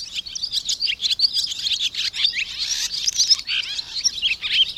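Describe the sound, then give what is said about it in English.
Calls of swifts, small long-winged birds that resemble swallows, fill the air in a dense, continuous chorus of high, thin chirps and screeches, overlapping without pause at a steady, fairly loud level, with no voices. “We've learned that swifts, small, long-winged birds that resemble swallows, shift into a state of torpor at night in order to conserve energy.”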